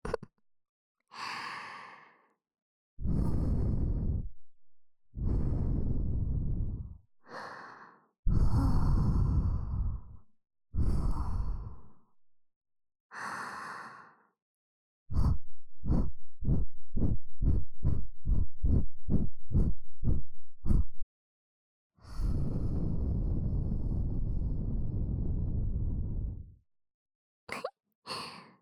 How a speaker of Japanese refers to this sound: 眉の吐息で耳よくくすぐりの刑だよ。